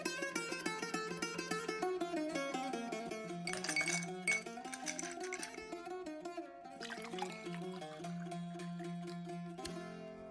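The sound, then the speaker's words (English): A drink glugs and splashes into a glass, its resonant pitch rising as the vessel fills, with a few light glassy clinks and no voices. “Shall we have a drink? Yeah, sure. Let's have a drink.”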